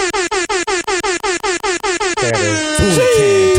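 A loud, DJ-style air horn blares in a rapid stuttering string of short blasts, then stretches into one long sustained honk that bends in pitch, brash.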